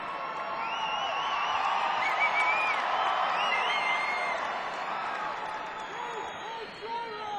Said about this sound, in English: I don't know if I can trust your applause.